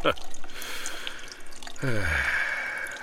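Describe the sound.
An older man's urine dripping slowly into a urinal, a few soft, irregular drips over a steady background hiss, with a brief voiced sound rising partway through.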